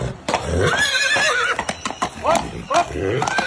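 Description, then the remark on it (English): A horse whinnies in loud, wavering calls, while sharp hoof clip-clops knock irregularly throughout the few seconds. “Please enjoy my horse video”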